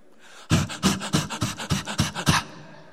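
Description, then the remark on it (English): A person imitates a dog panting with quick, rhythmic breathy huffs, about nine in a row, loud, with no other talk. “And when I think about panting, I remember my dog. Have you ever heard a dog pant?”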